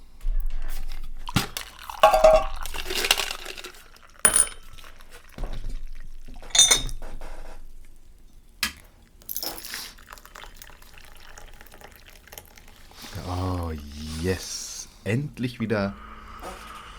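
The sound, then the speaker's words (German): Tea is poured into a cup, with ceramic clinks and clatter of dishware around it and a rising gurgle as the cup fills. “Ja, also, okay, dann ich würde einfach anfangen mit, dass ich mir eine Tanne, ein Glas Tee, einen Pecher so einkippe”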